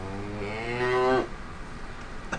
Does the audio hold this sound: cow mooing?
yes